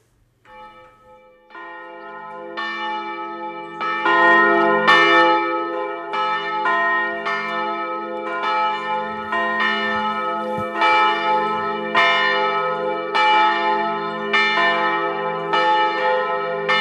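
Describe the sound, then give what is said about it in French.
Church bells ring in full peal on a Sunday morning, a loud, continuous cascade of overlapping strikes with rich ringing overtones, steady and rhythmic for the whole stretch with no voices. “Et voilà que soudain, le dimanche matin, les cloches se mettent à sonner à toute volée.”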